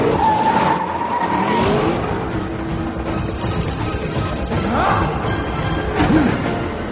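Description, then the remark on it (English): A car under a remote driving system drives hard with a steady, loud engine roar, and tires squeal and skid in short bursts near the start, middle and end. No one speaks. “Remote driving system activated. Wait, which side of the road is it? For bus sake, just drive.”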